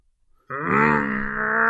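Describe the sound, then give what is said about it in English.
A man's voice imitates his race car driving away: a loud, sustained buzzing drone that starts abruptly after a brief silence and holds steady, its pitch creeping slightly upward. “I think I can hear his race car driving away.”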